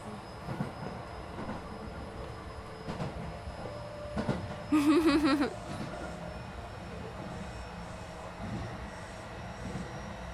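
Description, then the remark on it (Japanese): A train rolls steadily along the rails with a constant low rumble and periodic clacks over the track joints, plus a brief wavering squeal or whine near the middle. “電車ってさ、眠くならない？”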